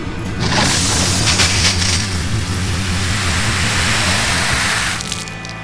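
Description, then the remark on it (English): Water splashes from a bucket onto a fire at a radioactive uranium core, a loud, sustained hissing rush over a low rumble that lasts about five seconds before fading off, with no voices. “Now, water bucket.”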